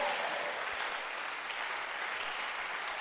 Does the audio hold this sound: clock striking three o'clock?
no